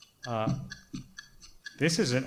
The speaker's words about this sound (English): The chicken clock is giving me math anxiety.